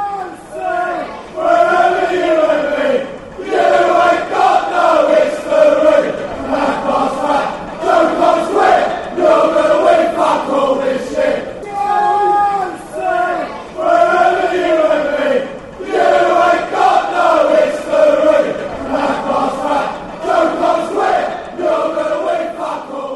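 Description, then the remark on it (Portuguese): A large crowd of football fans chants in unison, a loud, rhythmic taunting song insulting Chelsea (the Blues), repeated in rising and falling phrases, with no breaks in the dense wall of voices. “Então aqui você tem um xingamento contra os Blues.”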